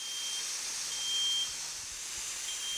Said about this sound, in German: Hat jetzt ein paar Minuten gedauert, aber jetzt springt der Rauchmelder auf den Wassernebel in der Luft an.